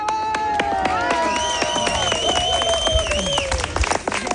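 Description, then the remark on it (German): A crowd of friends and relatives cheering and applauding loudly as two cyclists arrive home near the Landesmuseum on fully loaded bicycles after 53,000 km, with dense steady clapping and excited shouts and whistles rising over it throughout. “Freunde und Verwandte jubeln den beiden zu.”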